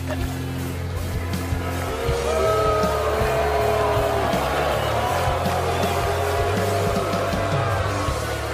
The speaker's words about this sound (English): The booing is okay. It just means you're hockey ready.